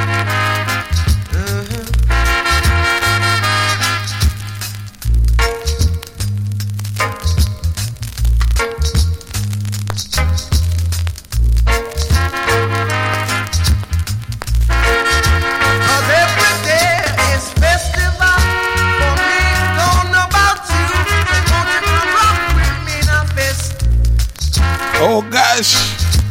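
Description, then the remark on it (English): Loud music, the B side of a rhythm played from a vinyl record, with a steady bass line and bright melodic tones throughout, and the dry crackle and scattered pops of the vinyl running underneath. “Hear the crackling of the vinyl.”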